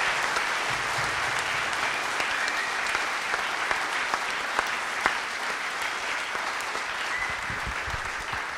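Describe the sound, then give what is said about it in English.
Sustained applause for John Moores University from a sizable audience, a steady dense wash of clapping with scattered sharper claps standing out, continuing at even loudness for several seconds without any talking. “So now you can applaud for John Moores University.”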